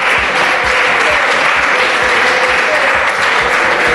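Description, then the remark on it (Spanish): Vox members chant loudly in Spain's Congress, mocking a pact between PSOE, PP and Unidas Podemos, a dense roar of many voices with a steady rhythmic pulse repeating the slogan "Que se besen" backed by clapping, unbroken for the whole stretch. “A Vox tampoco le gusta el pacto, pero en vez de criticarlo, de hacer alguna propuesta alternativa, lo que ha hecho es intentar ridiculizarlo esta mañana en el Congreso al grito de...”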